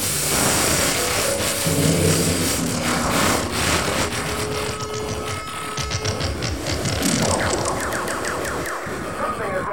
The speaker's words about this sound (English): that awful interference wrecking your orgasm on the Playboy Channel